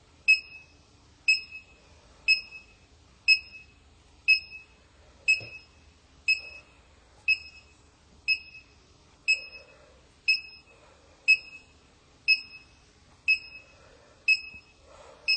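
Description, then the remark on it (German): A CO2 meter alarm beeps steadily because the reading is too high after the meter is held under a mask while someone breathes, one short high-pitched electronic beep roughly every second, repeating evenly over faint background noise, with no one talking. “Das ist jetzt der Alarm, der Wert ist zu hoch.”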